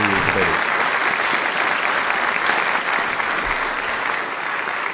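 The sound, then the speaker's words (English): An audience at a debate applauds steadily, a dense wash of many hands clapping at an even, loud level for the full stretch, with a brief voice-like murmur at the very start. “Round of applause for a difficult section there.”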